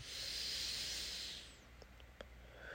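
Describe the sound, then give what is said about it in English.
A long, deep breath drawn in with a steady airy hiss for over a second, then fading out, followed by a few faint clicks and the start of another soft exhale, quiet, as a person breathes with a hand pressed on the heart and sun on the face. “My hand is on my heart and I'm pressing. And I'm breathing.”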